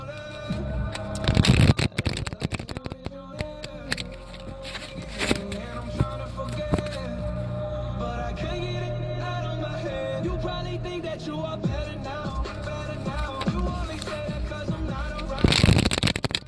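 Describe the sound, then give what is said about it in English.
A deck of cards is riffle-shuffled twice, a quick rustling burst near the start and another at the very end, both fairly loud over steady background music. “I'm sorry, I'm still shuffling.”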